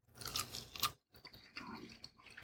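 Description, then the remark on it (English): Wet, crunchy chewing of a little piece of cold smoked barbecue chicken in a studio, a few loud bites and mouth sounds with a brief pause near the middle before steady mastication resumes, no talking. “And let's try, yeah, maybe I'll try a little piece of the chicken there.”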